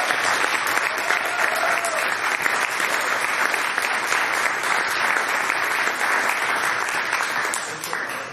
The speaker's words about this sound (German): Deswegen erstmal einen riesen Applaus an dieser Stelle für Marc Lindenbrink.